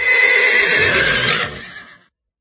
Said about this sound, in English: Since it was a farm with other animals as well, he could also hear some roosters crowing and some horses neighing.